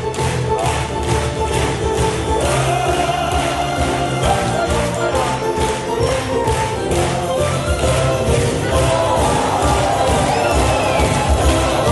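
A large audience in a sold-out concert hall in Bad Hamm gives sustained applause and cheering at the end of an opera concert. It is steady and loud throughout, and the clapping takes on a faint rhythmic pulse as it continues.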